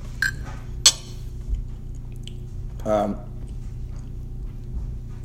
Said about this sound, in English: I'm eating a potato from Mr. Cockapinty